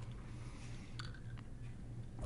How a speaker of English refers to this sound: I'm going to take a sip of my booze because I can do that whenever.